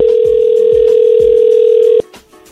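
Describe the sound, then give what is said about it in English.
A loud, steady telephone dial tone hums for about two seconds as a phone call is placed from a police precinct, then cuts off abruptly, leaving only faint background noise. “call now. You got 30 seconds.”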